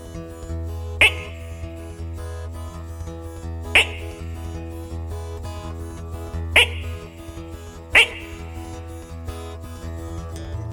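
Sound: frogs croaking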